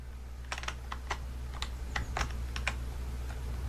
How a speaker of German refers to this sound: Vor allem, wie laut man auch die Tasten bei ihm hört. Hat er sein Mikro in der verdammten Tastatur drin, oder was?